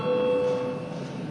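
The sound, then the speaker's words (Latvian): A chamber bell in the Saeima sounds before a vote on proposal 89: a single steady, mid-pitched ringing tone with bright overtones, holding for about half a second before fading out over a low background hum. “Lūdzu zvanu.”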